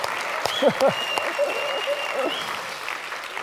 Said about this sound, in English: Come on, if you're gonna clap, clap. Let's go.